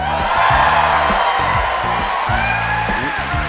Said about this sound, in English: We are on stage in front of a rowdy and large crowd at the Merle Reskin Theater on the campus of DePaul University in Chicago.